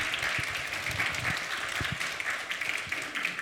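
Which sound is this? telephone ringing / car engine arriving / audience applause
audience applause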